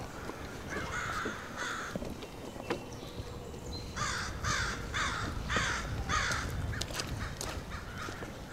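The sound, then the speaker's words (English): Crows caw in repeated harsh bursts, two calls early on and then a run of five or six in steady rhythm, against a low outdoor rumble with no talking. “You really get the sense that the crows are telling you you're trespassing.”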